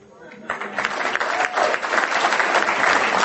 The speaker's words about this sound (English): And you know who you're clapping for? You're clapping for Alcoholics Anonymous. Because I couldn't have done that on my own.